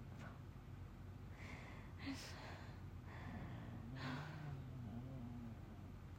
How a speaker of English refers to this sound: God, my dog snoring is really ruining this.